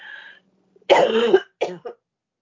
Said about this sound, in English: Excuse me, one second. So sorry, I'm having a coughing fit. I don't know what is up with my voice today.